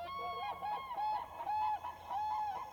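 A large exotic bird calls out in a run of about five loud, nasal honking cries, each rising and falling, with no voices or other sounds around it.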